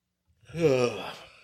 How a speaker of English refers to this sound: You're not supposed to yawn during the show. It's been a long day. It's been a long, long day.